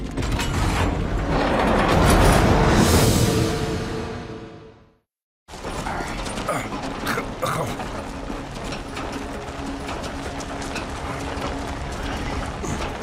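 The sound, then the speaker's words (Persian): A heavy mechanical grinding and rattling of a hangar door being opened swells loudly for about four seconds, cuts off abruptly, then resumes as a steadier clattering, scraping rumble with faint ratchet-like clicks. “زود باشید، کمک کنید در آشیونه رو باز کنم.”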